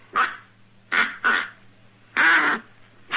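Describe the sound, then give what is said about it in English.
A duck call blown in five short, raspy quacks at an uneven pace, fairly loud, the fourth held a bit longer, with a faint low hum beneath and no talking. “It takes kind of a gnat to blow in it.”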